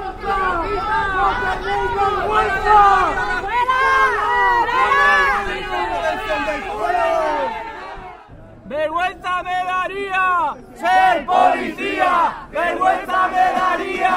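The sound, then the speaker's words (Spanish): A protest crowd of about twenty people, protesting institutional racism, shouts angrily and continuously at police officers. Many voices overlap in loud, rising chants and jeers of "fuera" and "vergüenza" ("out", "shame"). The shouting drops off briefly partway through, then surges back in sharp bursts. “una veintena de los allí presentes mantuvieron la protesta contra el racismo institucionalizado e increparon a los agentes policiales con gritos de «fuera o vergüenza» en respuesta a la actuación que estaban llevando a cabo en el barrio.”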